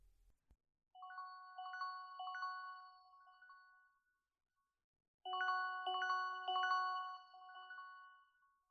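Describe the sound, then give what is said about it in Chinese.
A phone rings with a bright electronic melody for an incoming call, in two separate bursts, the tune pausing for about a second between them. The tone is clear, with no voices. “这个时间打来电话。”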